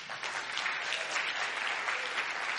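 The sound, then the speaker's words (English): A church audience claps steadily for the youth group after it led worship, a dense, even wash of applause that holds at a constant loudness throughout without any voices or cheers standing out. “The team got together several times this week, and if you would have heard them on Friday, you wouldn't be applauding now.”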